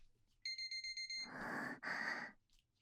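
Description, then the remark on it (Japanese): A punishment timer alarm rings out in a quick string of about six bright, evenly spaced electronic beeps, clear, then gives way to two loud, breathy bursts of noise. “お仕置きタイマーなりました。”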